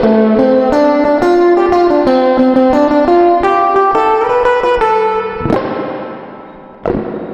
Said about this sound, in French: Et maintenant, avec cette fameuse réverb à ressort, où on entend vraiment ce son pas du tout naturel, ça donne ça.